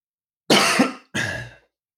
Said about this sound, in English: coughs and pauses, if he can take that out, that'd be great.